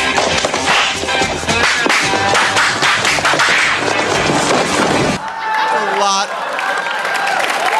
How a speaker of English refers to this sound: A lot of slaps.